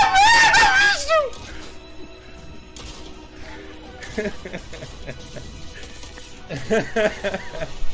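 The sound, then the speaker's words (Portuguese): A loud, shrill scream of ecstatic excitement bursts out right at the start, wavering for about a second, then gives way to quieter talking voices and another excited outburst near the end. “Era só esse grito, né? Assim, esse êxtase.”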